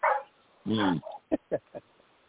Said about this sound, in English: We can hear the dogs barking. Oh, dang, my dogs. Oh my goodness.